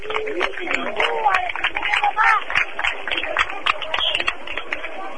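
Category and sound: crowd, crowd applause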